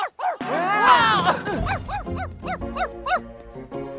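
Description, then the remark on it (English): A dog named Steve lets out a quick run of high-pitched, yipping barks, fairly loud, coming in a rapid, bouncy rhythm after a brief rising whine at the start. “He likes to bark.”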